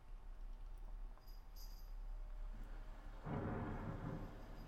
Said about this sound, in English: I do believe that's one of mine. Couldn't say for certain. Lots of people start with Thunder. No, it's not.